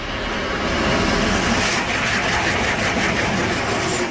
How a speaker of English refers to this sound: Watertown Mayor Ron Krieger says that sound of a high-speed passenger train would be music to his ears.